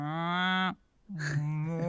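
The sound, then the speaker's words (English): A human voice imitates a cow's moo in two sustained, droning calls separated by a short pause. The second call is brighter and buzzier, and the sound is fairly loud. “Like a cow.”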